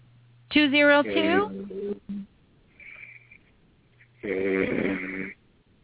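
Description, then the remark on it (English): A caller from area code 202 imitates snoring over a tinny phone line: a long rasping snore, a faint breathy pause, then another drawn-out snort, fairly loud. “Somebody playing on the phone because we know you ain't sleep.”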